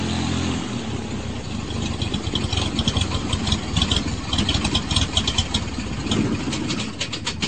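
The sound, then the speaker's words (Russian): A small propeller plane flying low over the steppe at sunset, its engine rumbling steadily and lazily, a continuous low throbbing drone with a faint rattling texture on top, holding at an even loudness throughout with no voices. “Низко над степью, со стороны заходящего солнца, летел, лениво погромыхивая мотором, маленький самолет.”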